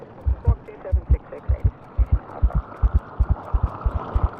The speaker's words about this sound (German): Blutdruck und Herzschlag steigen.